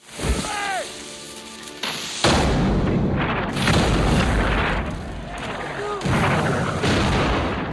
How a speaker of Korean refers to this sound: 한편 같은 날 밤 우세한 대포를 앞세운 프랑스군의 공격이 다시 이어지고 영국군은 전멸할 위기에 처한다.